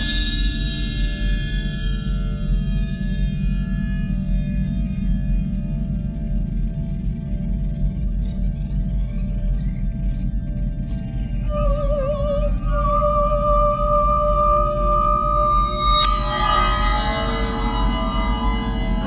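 A single clear, crystal-like bell ding rings out near the end, its bright tone lingering over a low, steady rumbling drone amid shimmering, echoing electronic tones.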